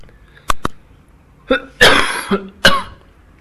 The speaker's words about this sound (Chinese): 哦，不好意思，这个咳嗽还没有完全好。